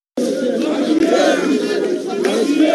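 County governors, led by Council of Governors chair Wycliffe Oparanya, march through the streets of Nairobi to the Supreme Court over a revenue-sharing row. The crowd chants and shouts together in a dense, continuous roar of voices, loud and sustained, with rising and falling swells of collective yelling.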